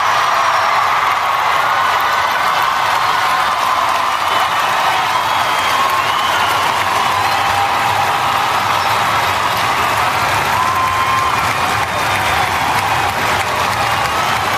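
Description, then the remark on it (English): A large crowd applauds and cheers after Senator Rubio is asked to refuse NRA donations, in a steady, dense roar of clapping that stays loud and even for the whole stretch, with whoops and shouts rising over it and no speech. “I want to point out that during this, as you could hear, the crowd is kind of on the side of that question.”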